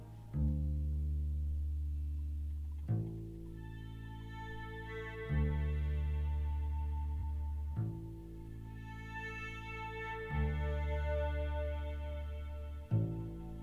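A slow, moody instrumental rock intro: full sustained chords with deep bass, each swelling in with a fresh strike about every two and a half seconds, steady and fairly loud, with no singing yet.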